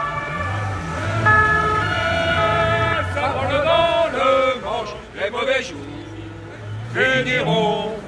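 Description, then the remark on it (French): The siren of a police bus carrying PSA workers wails loudly with sustained, shifting tones as it pulls away, while a crowd of voices shouts and chatters around it. “Donc le bus de la police, la bétaillère, ou autrement dit le panier à salade, va partir.”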